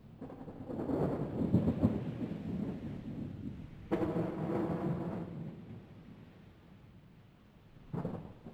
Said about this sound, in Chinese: 早春三月的台北仍然略有寒意，而吉隆坡却每天下午都有热带的雷雨。在3月4号到3月13号之间的某一个下午，我录下了接下来这段的雷雨声。